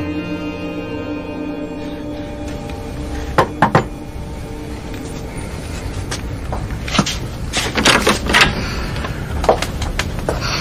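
knocking on a door

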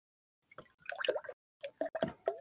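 water being poured

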